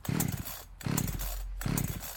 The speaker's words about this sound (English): Suppose you've got to get the petrol through. Yeah, it sounds like you're going to flood the engine. It does a little, doesn't it?